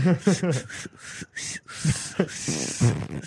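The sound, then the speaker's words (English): A voice imitates a whistle like air escaping: breathy hissing puffs and a thin, rising whistled tone, close and fairly loud, interspersed with short voiced vocal noises. “It sounds more like air escaping than air being forced out.”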